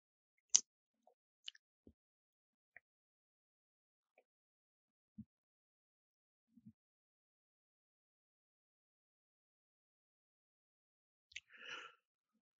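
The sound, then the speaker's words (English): A drink being sipped: faint, scattered wet clicks and small plops separated by long stretches of quiet, then a short breathy slurp near the end. No one speaks. “I'm going to pause for a moment, take a sip of my drink, and check to see if we got any questions.”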